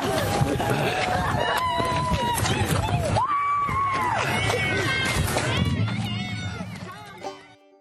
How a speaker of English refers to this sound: All right, all those kids, there's a bunch of kids cheering out there.